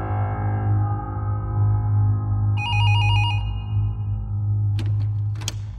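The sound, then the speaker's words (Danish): A telephone rings in the evening at the Danish National Police travelling investigation unit: a single warbling, trilling burst lasting about a second over a steady low hum, followed by a couple of sharp clicks near the end. “Senere samme aften ringer telefonen hos Rigspolitiets rejsehold”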